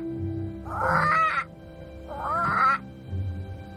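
A caged bird in an apartment gives two loud, harsh squawking calls about a second apart over a low steady background hum, on a hot day with a storm threatening.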